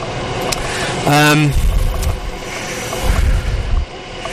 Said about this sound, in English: Now, I'm sure that even though I have a shotgun microphone, the amount of noise from that passing coal train, no, it's a freight train, would drown it out.